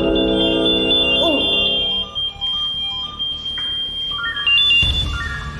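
Several radio pagers go off together during their weekly test to check that they work, their shrill electronic beeps and warbling alert tones overlapping into a loud, layered chorus that keeps sounding throughout, with no talking.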